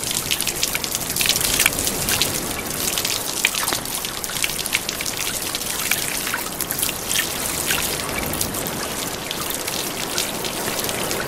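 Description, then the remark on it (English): Water pours down in a steady, continuous cascade like a running shower onto a penguin at the top of a climb, with dense splashing and spattering droplets, fairly loud throughout, with no voices. “And at the top, all any penguin requires is his own private power shower.”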